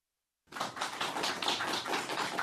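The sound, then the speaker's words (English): A crowd of interns from Magna breaks into applause after a moment of silence, many hands clapping in a dense, steady patter that holds at an even level to the end, with no voices heard. “And there is more applause from the interns from Magna.”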